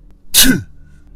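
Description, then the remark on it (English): A single sharp, explosive sneeze bursts out, loud and breathy with a quick descending tail, surrounded by near silence. “Bless you.”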